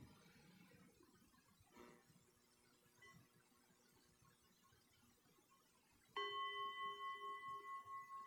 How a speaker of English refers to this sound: And I'll go ahead and ring the bell to close the practice. And when I do, feel free to just lift your eyes and move about if you'd like.